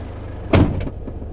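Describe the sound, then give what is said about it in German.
A door of a 6-metre Sprinter van is pulled shut with a single solid thud, followed by a fainter knock as it settles, over a steady low background hum. No one speaks. “Schon leise, die Türen zu sind und so.”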